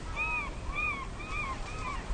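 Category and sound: bird, loud gulls calling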